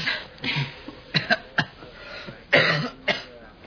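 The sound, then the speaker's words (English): A person coughs repeatedly in short, harsh bursts, with a longer hacking fit in the middle and some throat clearing between, with no talking. “I suppose I could have some of those cough pills, huh?”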